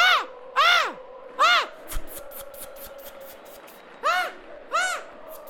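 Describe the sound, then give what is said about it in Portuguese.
A person imitates an eagle's cry with five shrill, arching screeches: three in quick succession, a pause filled with faint clicks and rustling, then two more loud calls. “Olha, eu a transformar-me agora. Agora mesmo, sou uma águia.”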